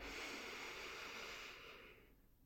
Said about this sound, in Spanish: Vamos a comenzar tomando una respiración profunda. Inhala todo el aire.